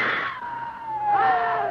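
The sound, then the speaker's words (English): Loud, sustained human screaming, one shrill unbroken cry that slowly drops in pitch, with a second piercing scream joining in partway through. “Scream again.”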